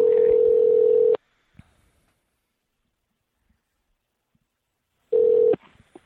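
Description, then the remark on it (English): A steady telephone dial tone hums loudly for about a second as someone redials to reconnect a caller who dropped off the call, cuts off into a long silence, then returns briefly for half a second near the end. No one speaks. “Trying dialing it back in again.”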